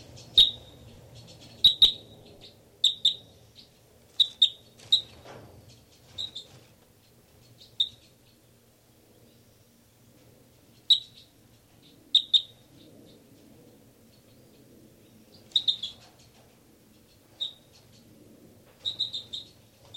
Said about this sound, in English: This is the song of bird 318. Bird 318 here.